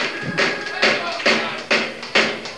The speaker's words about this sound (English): Clap the song. Clap your hands along with the drum. Yeah. Everybody clap your hands. On the beat.